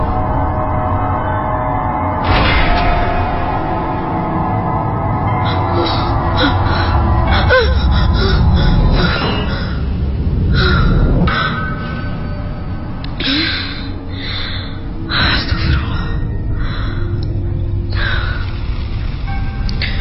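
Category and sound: human body sound, panting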